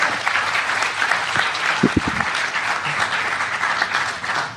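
Steady, dense applause from an audience, a continuous crackle of many hands clapping at a fairly loud, even level, with a few low thumps partway through.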